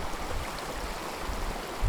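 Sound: water flowing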